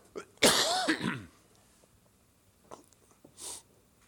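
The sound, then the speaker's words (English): One loud cough bursts out harshly from a person reading a passage aloud and fades over about a second, followed by quiet, a few faint clicks and a short breathy sniff near the end. “I'm surprised it took that long for me to cough.”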